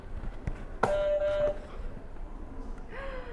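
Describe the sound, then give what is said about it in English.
A buzzer sound effect blares once with a sudden start, holding a steady, bright, reedy tone for about half a second before cutting off, followed by a faint rising tone near the end. “You can go ahead and hit another buzzer.”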